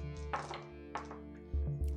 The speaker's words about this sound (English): Sorry, I'm getting dice all over the table here.